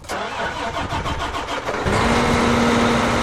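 A large diesel tractor engine, on a tractor attached to a planter that seeds 48 rows at a time on a corn and soybean farm in central Illinois, cranks with rapid, rhythmic churning for about two seconds, then catches and settles into a steady, loud idle with a low hum. No one speaks.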